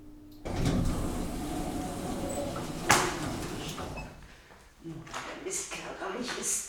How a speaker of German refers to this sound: Sie steht leise schimpfend im Fahrstuhl. Der Lift hält, die Tür geht auf.